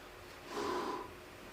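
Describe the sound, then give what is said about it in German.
A single breathy exhale onto a CO2 sensor to test how sensitive it is, a soft airy rush lasting about half a second, moderately loud against quiet background hiss, with no talking. “Ich versuche jetzt einfach mal zu gucken, wie gut so ein Ding atmet, wie gut das Ding hier misst.”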